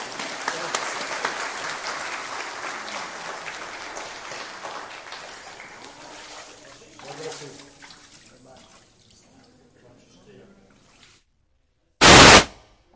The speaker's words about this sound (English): An applause again.